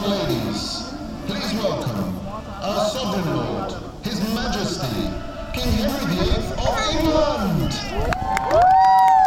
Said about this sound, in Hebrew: טוב, אז עכשיו שמעתם את התרועות? שומעים את הרעש?